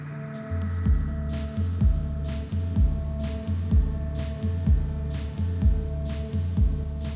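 A steady, persistent electrical buzzing hum drones on without a break inside a building at Point Sur, overlaid by a low rhythmic throb that pulses about once a second, like a heartbeat. No one speaks.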